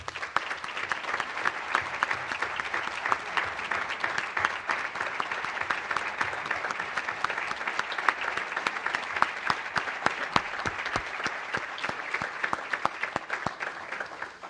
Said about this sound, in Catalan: si us sembla, podem fer-li un aplaudiment.